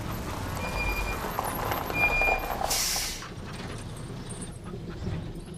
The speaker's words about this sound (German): Natürlich biegt wenig später tatsächlich ein großer LKW auf den Hof und alle staunen. Was für ein Riesending! Hinten doppelte Reifen.